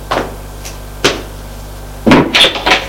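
A bedroom door being opened: two sharp clicks of the handle, about a second apart, then a rattling burst with a short high squeak as it swings. No one speaks.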